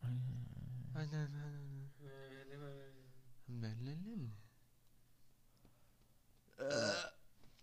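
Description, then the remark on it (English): Several long, drawn-out burps rumble, low and croaky with a rising, strained tail, followed after a quiet pause by one short, sharp burp; a person burping after drinking a drink. “You know when you burp and the taste comes back up and sits at the back of your throat?”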